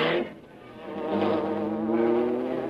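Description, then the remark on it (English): The sustained, droning engine buzz of the Black Beauty, the Green Hornet's car, with a slightly wavering pitch and rich harmonics, dipping briefly before swelling louder and holding steady. No voices. “Then he heard the well-known sound of the Black Beauty.”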